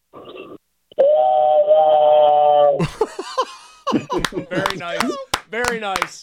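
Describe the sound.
A man's voice mimics a train whistle with one loud, steady, held tone lasting about two seconds, then bursts of laughter, clapping and chatter follow.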